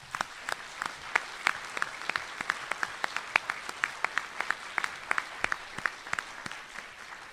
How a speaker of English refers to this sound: If you could all join me in a round of applause.